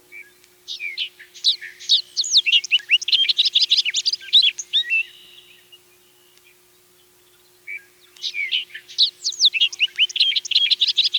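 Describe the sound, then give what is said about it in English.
A bobolink sings two long, bubbling, tinkling phrases of rapid jumbled notes, separated by a few seconds of quiet. The song is clear, with no other sounds. “The bobolink supposedly says its name, although whoever named it had a big imagination.”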